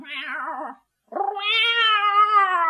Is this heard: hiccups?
no